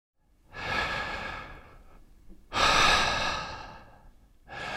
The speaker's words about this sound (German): Tief Luft holen. Denn durch die Luft kommt die Energie in den Körper.